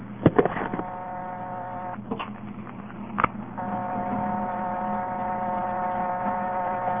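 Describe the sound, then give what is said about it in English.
A steady, buzzy telephone dial tone hums, breaks off for a moment of clicking as a nine is dialed, then resumes unchanged and keeps droning. No one speaks. “If you dial anything but 0, the dial tone just stays on.”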